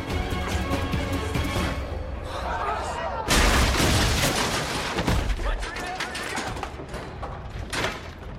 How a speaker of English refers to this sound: After dropping and smashing through layer after layer of the timbered platforms, he comes to rest on his back and picks himself up painfully.